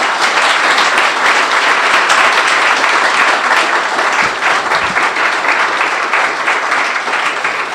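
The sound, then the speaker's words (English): A crowd applauds steadily, a dense wash of many hands clapping at a constant loud level, with no voices breaking through. “Please, a big round of applause for”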